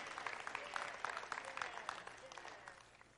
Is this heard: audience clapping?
yes